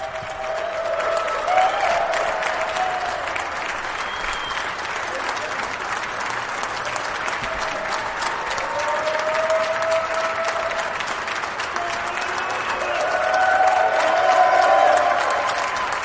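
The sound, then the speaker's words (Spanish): Sustained applause from a large crowd for a man about to ring a bell, a dense steady patter of clapping with scattered cheers and voices rising through it, swelling louder toward the end. “hasta le costó empezar a tocar la campana porque la gente no paraba de aplaudirle”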